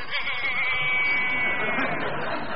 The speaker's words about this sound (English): There's a sheep there. A sheep and an owl.